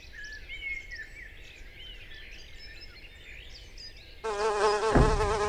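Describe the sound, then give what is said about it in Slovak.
Birds chirp softly in the background, then a loud hornet buzz cuts in near the end as a hornet flies around a person trying to catch it, a steady droning hum that continues to the end with a slightly wavering pitch. “Takže chytím včelu, ktorá je napravo a pokúsim sa teraz chytiť sršňa, ktorý poletuje okolo mňa.”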